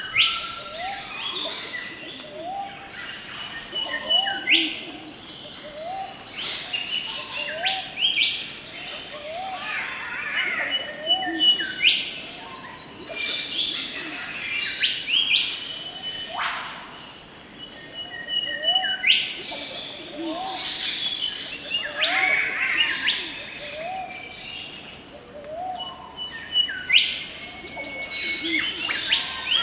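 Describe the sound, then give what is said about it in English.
A dense dawn-style chorus of about 18 bird species, with overlapping chirps, whistles and trills layered continuously throughout, some calls bright, others softer. “So, 18 or so species. Let me play a bit of that sound so that you can see how many you can hear.”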